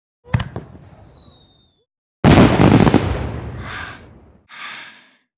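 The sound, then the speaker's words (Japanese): Fireworks going off in the night sky: a sharp pop with a thin whistle trailing away, then a loud, rumbling burst full of crackle, followed by a couple of softer hissing bursts. “今度はさらに大きかったね。夜空が一瞬昼間かと思ったくらいだよ。”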